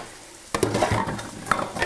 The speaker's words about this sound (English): The onions have started to sizzle a little more vigorously. You can hear them.